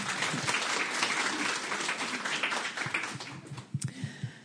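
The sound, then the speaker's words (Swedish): An audience applauds a guest author after she tells a story, with dense, steady clapping that fills the first few seconds, then thins out into scattered individual claps before fading away. “En applåd.”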